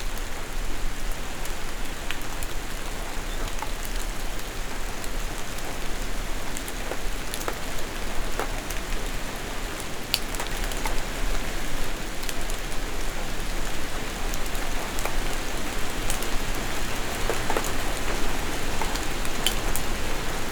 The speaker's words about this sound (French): Une légère ondée de pluie.